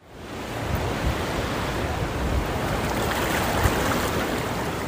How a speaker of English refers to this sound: Welcome to Hermosa Beach, right on the sand near the waves.